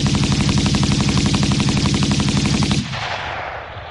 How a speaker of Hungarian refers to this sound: Állj vagy lövök! Ordította zihálva, és kibiztosította a fegyverét. Mikor a második felszólításra sem kapott választ, beleeresztette a tárat az árnyékba.